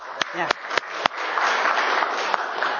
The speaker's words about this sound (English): Yeah, go ahead. It's worth clapping for.